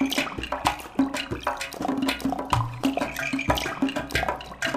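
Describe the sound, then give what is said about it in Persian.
Water runs steadily from a tap left running, a dense splashing rush like water pouring into a basin, with small irregular spatters and gurgles throughout. “داد میزدی به طعنه و بخنده یه کسی بیاد شیر آبو ببنده.”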